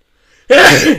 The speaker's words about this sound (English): Sorry, one second. Bless you.